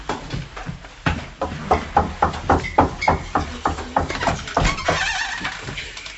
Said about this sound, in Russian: Точно стучат. Сходи, узнай, кто там. Да, папенька, стучит кто-то.